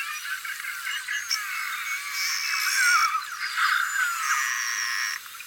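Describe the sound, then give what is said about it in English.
Beluga whale chatter: a steady stream of high, bird-like whistles, chirps and squeaks mixed with buzzy, rattling trills, continuous and fairly loud, with no one speaking. “so you can hear the typical chatter. Right? So that's more sea canary-like, right?”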